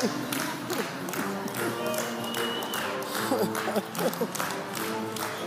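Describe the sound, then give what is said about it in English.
An audience claps steadily throughout, a dense, continuous patter of many hands, with a crowd's overlapping voices and a few cheers mixed in underneath. “Come on, you can keep the clapping going.”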